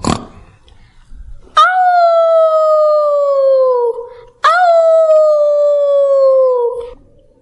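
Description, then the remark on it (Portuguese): A wolf howls twice, each cry a long, loud, sustained tone that slowly slides downward in pitch before fading, with a brief pause between them and nothing else around. “Quando ouviram o lobo uivar, os cães saíram de todas as casas da aldeia.”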